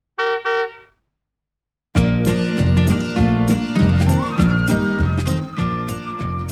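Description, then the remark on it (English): Postman Pat's van horn honks twice in quick succession, two short, bright, fairly loud toots. After a brief silence, lively music begins. “If you want to read along with the story, turn the page when Postman Pat sounds his horn.”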